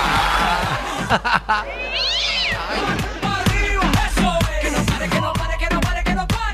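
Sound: cat meowing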